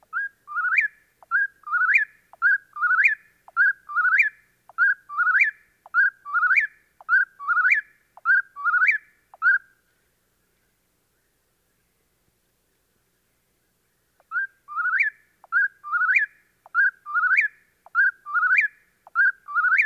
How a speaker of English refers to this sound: And there's one now, the forest-dwelling whippoorwill, whose whistled notes spring forth from eastern forests just as thrush songs fade away.